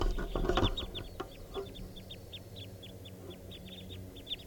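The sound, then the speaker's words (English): A flock of eight wild birds, back from foraging and perched in the top of a tall red fir by a camp, calling with a steady stream of short, high chirps overlapping at an irregular, busy rhythm, moderately loud over a low background rumble, with no one talking. “And now they've come back and they're perched in the tall red fir that's right here by the camp. And they're sitting up in the treetop calling.”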